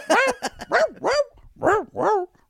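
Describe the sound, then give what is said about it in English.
A CD recording of dogs singing a song: barks strung together into a tune, a quick run of short, pitched yips, then several longer barks that slide up and down in pitch, loud with no talking. “Y'all, if you like that CD of dogs singing songs, something's wrong with you.”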